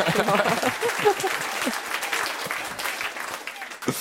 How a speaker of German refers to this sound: Und ich würde sagen, einen kleinen Applaus, wie sie dabei aussieht.